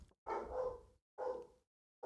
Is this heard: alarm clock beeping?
no